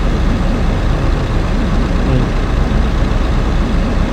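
A Wildcat motorcycle engine drones loudly and steadily for the whole stretch, a dense, rumbling idle with no pauses, revving changes or voices.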